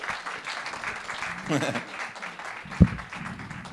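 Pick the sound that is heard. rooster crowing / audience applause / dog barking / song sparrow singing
audience applause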